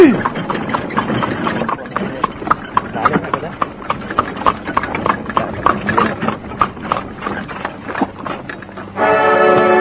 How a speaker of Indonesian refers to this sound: Dan lihat, bukankah itu kereta kuda Gusti Ramapati?